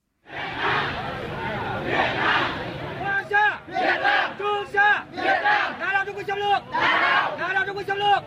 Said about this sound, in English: Hear the sound of Vietnamese protesters chanting against a Chinese oil rig in the South China Sea in territory claimed by Vietnam.